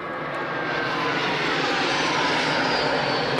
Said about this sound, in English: Filmed from rebel trenches by an aid agency, these pictures clearly show jet planes being used against fighters from the Kachin Independence Army.